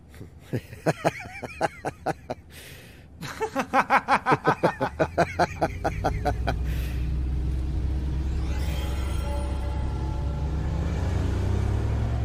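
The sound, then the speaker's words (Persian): A quick series of sharp, rhythmic bursts gives way to a steady low engine rumble that fills the second half, heard from inside a small car, likened to a toy car, as it pulls away and drives on. “جان میتونستی یه بزرگترش انتخاب کنی. احساس میکنم توی یه ماشین اسباب بازیم.”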